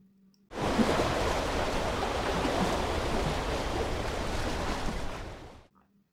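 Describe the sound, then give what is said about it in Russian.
A steady, fairly loud rush of sea water churning as waves wash past a steamship sailing on the sea, running continuously for about five seconds with no voices, starting and stopping abruptly. “Когда орел летел над морем, то по морю плыл пароход.”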